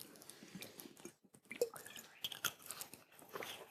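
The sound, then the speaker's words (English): Someone drinking water: a few wet gulps and swallows with small mouth clicks and a brief sloshing burble, fairly quiet and irregular, with no talking. “but this analysis runs for some time that allows me to drink some water.”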